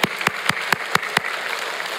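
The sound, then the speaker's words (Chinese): A church audience applauds to thank fellow members, with a steady rhythm of strong, evenly spaced claps over a dense crackle of many hands. The beat fades after about a second into a scattered wash of clapping, with no voices. “我们鼓掌谢谢他们。”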